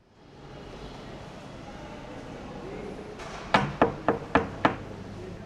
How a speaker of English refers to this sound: Who's knocking?